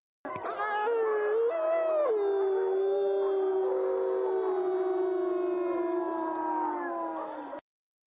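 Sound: wolf howling nearby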